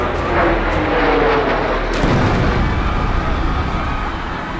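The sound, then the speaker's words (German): A loud roaring jet airliner slams into the south tower of the World Trade Center in New York at 9:03, a sudden heavy explosion bursting through midway and leaving a dense, continuous rumbling roar afterward, with no voices. “Ein zweites Flugzeug zerstört den südlichen Turm.”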